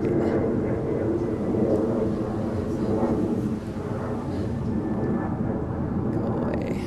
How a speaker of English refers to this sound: It's actually quite apt to have a plane go away.